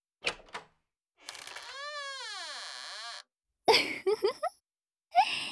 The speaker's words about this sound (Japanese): さあ、おトイレの扉も開けました。便器が見えますね。